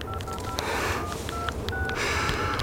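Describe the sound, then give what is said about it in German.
A rapid series of about seven short keypad dialing tones from a mobile phone that is no longer working properly, evenly paced beeps with one held slightly longer, heard clearly over a steady background hiss. “Mein Handy geht auch nicht mehr. Gibt seinen Geist auf.”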